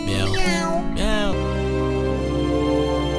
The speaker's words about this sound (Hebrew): אי שם במרכז הארץ גאו שני חתולים, יניב וגדעון שמם. מיהו, מיהו, מיהו. שני החתולים גאו בהרמוניה מושלמת אחרי סיומה של העונה הקודמת של לא רוצים לישון, רוצים להשתגע.